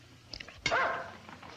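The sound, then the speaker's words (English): A single sharp dog bark rings out, preceded by a couple of faint yips and trailing into a brief echo before the quiet returns. “The barking alerts them all.”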